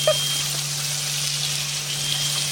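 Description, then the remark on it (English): Bacon frying in dark, muddy brown fat in a pan gives off a steady, dense sizzle with fine crackling, fairly loud and unbroken for the whole stretch, over a low constant hum and with no one talking. “The bacon in. Look at the filthy colour of that fat, though.”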